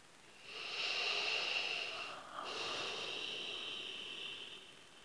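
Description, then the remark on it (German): One slow, deep breath: a long airy inhale lasting nearly two seconds, a brief pause, then an equally long, steady exhale, with no talking. “Im Jetzt ankommen und atmen.”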